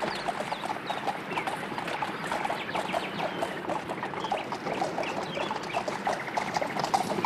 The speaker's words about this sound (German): Ich habe nämlich eben einen Hahn krähen hören. Es kann also nicht mehr weit sein.